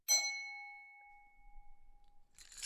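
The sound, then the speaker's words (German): A single bright ding of a spoon gently striking a glass bowl, ringing with clear high tones that slowly fade over about two seconds, followed by a faint rustle. “mit dem Löffel vorsichtig an Glasschüsseln oder Trinkgläser klopfen.”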